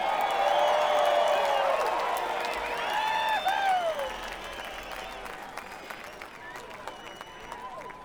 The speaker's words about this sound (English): another nice round of applause